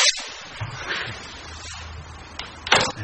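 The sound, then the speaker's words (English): On a replica Gutenberg printing press, a printed sheet of paper peels away from tacky inked metal type in a drawn-out, crackling rasp, fairly quiet, ending in a louder ripping snap as the sheet pulls free. No one speaks. “Lift the paper off that sticky type, and it does make a sound. You can hear it come off that sticky type.”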